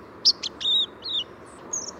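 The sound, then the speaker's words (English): A white-throated sparrow practicing its song: a handful of thin, high whistled notes, some sliding or wavering, delivered unevenly over a faint background hiss, with no voices present. “In the fall, listen for white-throated sparrows rehearsing their song.”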